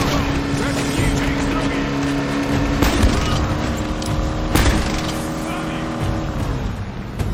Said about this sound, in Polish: Ale oni śmiesznie jeżdżą tym samochodem. W sensie oni tamtymi samochodami.